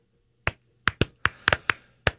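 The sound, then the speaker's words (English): An audience gives several sharp, separate handclaps at an uneven pace, about eight crisp slaps with brief gaps between them, moderately loud with no voices. “Then clap.”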